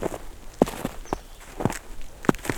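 Footsteps walking at a steady, unhurried pace under white clouds beginning to veil the light, about six or seven soft thuds, each with a scuffing crunch, over a light hiss of background noise. No one speaks.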